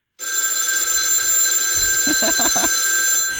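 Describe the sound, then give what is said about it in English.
A telephone rings loudly and steadily for about three seconds for an incoming call, a bright, sustained electronic trill, with a few soft low thumps near the end and no talking. “It's a celebrity death phone call.”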